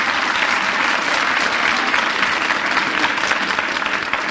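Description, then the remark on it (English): Steady audience applause for a jazz trombone player, a dense wash of many hands clapping at once, sustained and fairly loud throughout without any voices rising above it. “Now, let's have a little applause here for ….”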